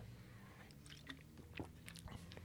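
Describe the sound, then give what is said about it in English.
Quiet mouth sounds of someone sipping a drink: a few soft wet clicks and slurps over about two seconds, heard alone with no talking. “A little sip of rocket fuel there.”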